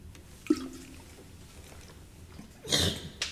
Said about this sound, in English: And I might take a little sip here.